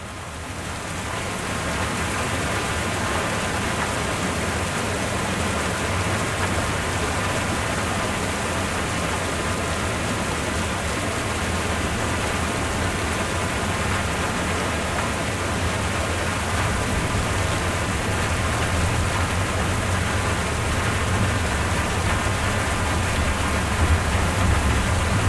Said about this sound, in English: And you can go ahead and listen to some very peaceful rain noises just for a brief moment while I do that.